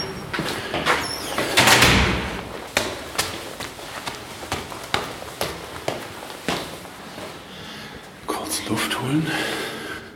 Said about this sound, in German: So, Tür auf.